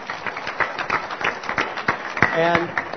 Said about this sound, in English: I want to thank all of our panelists. Please join me. Give them a good hand of applause.